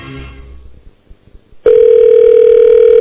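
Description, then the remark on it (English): After a few soft clicks and faint rustling, a loud, steady telephone ringback tone starts abruptly and holds unbroken to the end, heard through the phone line, while waiting for Jay Maynard to pick up the phone. “Waiting on Jay Maynard to pick up the phone.”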